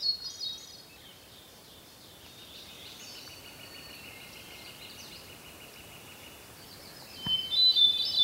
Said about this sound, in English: It's a beautiful, quiet day, and I'm out in an area that's got a lot of conifers. Very beautiful, green place. I'm recording a hermit thrush. It's that exquisite, just exquisite, flute-like song.